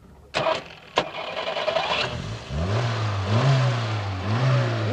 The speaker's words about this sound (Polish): Zapuść ten silnik.